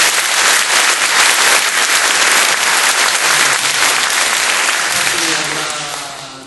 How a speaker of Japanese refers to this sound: 今日は外もたすき晴れで、お天気に恵まれまして、こんな大勢のお客様を迎えることができまして、またあの温かい、拍手をいただきまして、何一度何よりの励みとなりました。